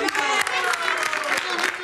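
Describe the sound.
An audience breaks into steady, dense applause, with many overlapping claps forming a loud wash of sound, along with murmuring crowd voices, for a couple of seconds.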